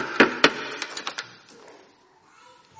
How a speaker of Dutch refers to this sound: En even later wordt er hard op de deur gebonkt.